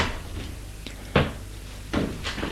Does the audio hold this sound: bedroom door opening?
yes